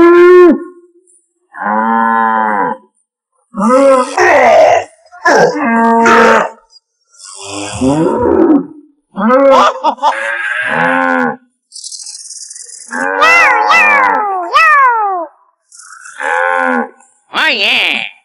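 A series of loud cow moos from the cows of Moo Moo Meadows in Mario Kart, about a dozen drawn-out lowing calls in quick succession with brief pauses between, some rising and falling in pitch, with no talking.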